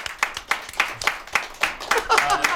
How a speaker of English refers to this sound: You know, I want to laud and really praise all seven competitors for their they bravery. They deserve a little round of applause.